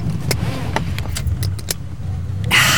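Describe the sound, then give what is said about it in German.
Keys jingle in a few sharp clicks over a low, steady car rumble, then a louder, hissing surge at the end as a woman starts the car's engine. “Gut gelaunt startete sie den Wagen.”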